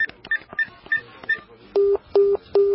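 A telephone number is dialed as a quick series of about six short keypad beeps, followed by three longer, evenly spaced tones on the line, clear with no talking.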